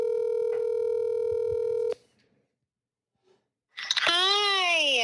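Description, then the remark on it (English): A phone call being placed: a steady electronic tone holds for about two seconds and cuts off, then after a short silence a bright, swooping electronic tone begins. No one talks. “Do you want to call her? All right, let's do it.”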